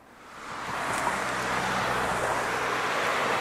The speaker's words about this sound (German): Geh in Richtung der lautesten Stelle im Verkehr hier irgendwo, also Kreuzung oder sowas